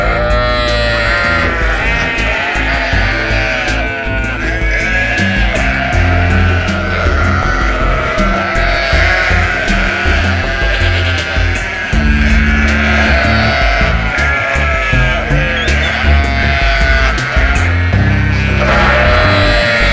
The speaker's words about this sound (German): Da fing plötzlich so ein Schaf hemmungslos zu blöken an und gleich hinterher begann eine Herde voll mit Lämmern blöken auf ihn einzuhämmern. Nicht nur ein Schaf oder zwei, da war es mit dem Schlaf vorbei.